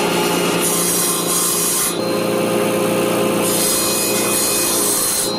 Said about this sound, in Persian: و آنهایی که هنوز هم در کوچه قدیمی هرات با اره، رنده و تیشه کار می‌کنند نگران به نظر می‌رسند.